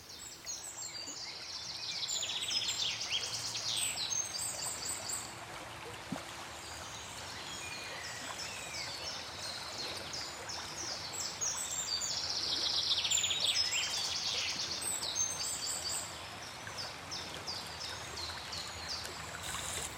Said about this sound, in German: Und es war früh am Morgen, die Vögel haben gezwitschert und es war großartig.